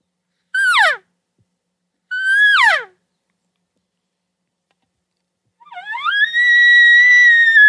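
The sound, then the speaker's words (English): Two short, nasal elk cow calls slide downward in pitch, then after a pause a soft, light elk bugle, kept in the middle and not getting really high, rises and holds as a steady, high whistling tone, made to get a response from a close bull. “Let me hear the cow calls and let me hear the light bugle.”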